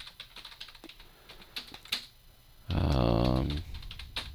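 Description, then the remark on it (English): Irregular keyboard clicks tap away for a couple of seconds, then a short, loud voiced sound cuts in for about a second before a few faint clicks resume. “I'm not typing that.”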